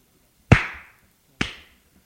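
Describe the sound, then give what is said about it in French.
A man slaps a woman across the face twice. The first slap is loud and cracking, the second softer about a second later, each with a quick bright sting that fades fast. No one speaks. “C'est lui qui la gifle.”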